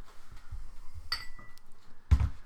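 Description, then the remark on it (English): Jim Beam Devil's Cut whiskey being poured into glasses: quiet handling with a couple of bright glassy clinks midway, then a louder knock as a glass is set down. No one speaks. “I'll pour these out.”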